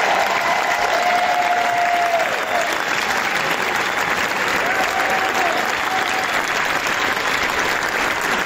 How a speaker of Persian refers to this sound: که با استقبال پرشور تماشاگران مواجه شد و اونها 12 دقیقه عوامل این فیلم رو در کاخ جشنواره کن تشویق کردن.